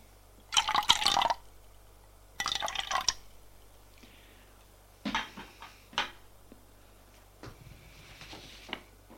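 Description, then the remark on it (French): Two short, bright bursts of liquid being poured into glasses as drinks are served at a small coffee table, followed by scattered light clinks and taps as the drinks are set down, with no talking. “Elle est revenue, pose sur la petite table basse et fait le service.”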